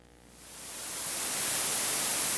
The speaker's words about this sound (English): For the last one, I think you'll be hard-pressed to tell where it changes from my analog-adjusted pink noise coming off the record to a perfect computer-adjusted version of pink noise. We'll let that play.